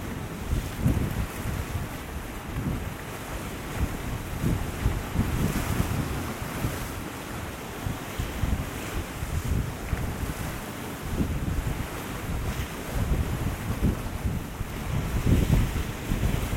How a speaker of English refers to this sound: I love watching the turmoil when waves are bashing against rocks and then receding and being hit by the incoming wave and then everything swirling about, no consistency whatsoever, it's a sheer turmoil.